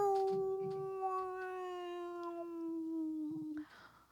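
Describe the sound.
A person imitates a whale call with one long, drawn-out moaning tone that slowly slides lower in pitch, steady, followed by a short breathy burst at the end.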